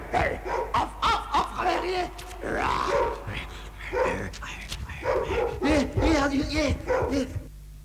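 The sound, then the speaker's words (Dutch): A dog barks and yips repeatedly in short bursts, with occasional whimpering grunts, while people speak over and around the noise throughout. “Haal die hond zo bij je.”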